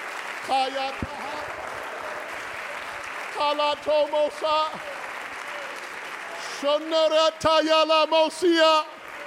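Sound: audience clapping hands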